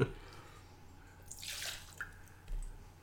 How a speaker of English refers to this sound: You pouring that over crushed ice?